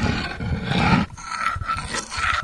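Two slate slabs grind against each other, producing a loud, harsh, rasping scrape in two long strokes, with a rough growl-like texture and no voices.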